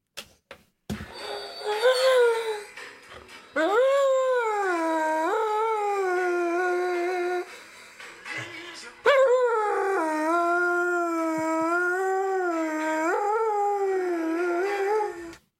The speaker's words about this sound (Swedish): Är det en hund som sjunger till de musikprogram på TV? Ja, nynande hund eller? Det är en sånghund kan man säga. Mm. Det här är den sjungande hunden Freja från Lidköping.